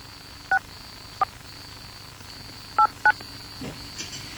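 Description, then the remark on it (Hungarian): A phone keypad being dialed on a Káosz Rádió broadcast to call a listener: four short, clear touch-tone beeps at uneven intervals, with a faint steady high electronic tone running underneath and no one speaking. “A Káosz Rádióban van egy ember, aki most vegye fel a telefont, mert meg akarom jutalmazni, mert iszonyú mennyiségű SMS-t küldött.”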